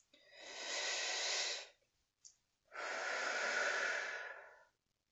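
Slow, deep breathing, one of three deep breaths: a long, airy inhale followed by a brief pause and an equally long, steady exhale, with no talking.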